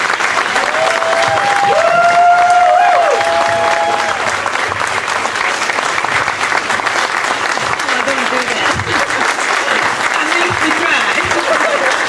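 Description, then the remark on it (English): A large crowd applauds loudly and continuously as everyone stands on the stage, with whoops and cheering voices rising over the dense clapping throughout. “As you can hear, the crowd begins to go wild.”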